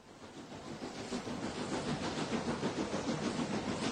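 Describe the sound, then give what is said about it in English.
Steady, echoing hum inside the old building of the historic Union Station train station, a dense wash of rumble and hiss with faint indistinct activity, no clear voices standing out, holding even throughout. “Then I heard about the historic Union Station. So I went to see what it was like. And walking into the old building feels like going back in time.”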